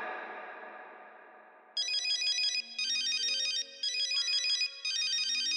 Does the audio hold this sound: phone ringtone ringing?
yes